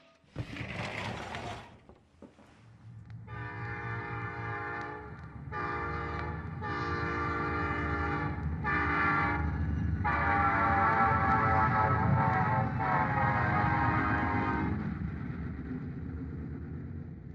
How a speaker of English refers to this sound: train going south. Birmingham, the first stop.